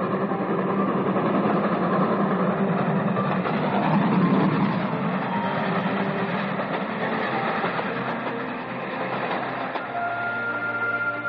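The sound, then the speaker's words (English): A third brilliantly lighted express train roars by in a loud, steady rush of rumbling and rattling that swells briefly, then holds at a dense, even level throughout. No voices are heard. “And they heard the roaring thunder of a third brilliantly lighted express.”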